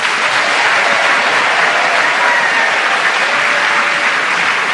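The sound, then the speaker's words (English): Steady, loud applause from the audience of Just a Minute at the Mermaid Theatre, Puddle Dock near Blackfriars, welcoming panellists Paul Merton, Clement Freud, Stephen Fry and Tim Rice: a dense wash of many hands clapping at once that holds evenly throughout with no voices breaking through. “Please welcome all four of them.”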